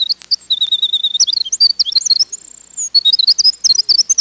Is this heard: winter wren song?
yes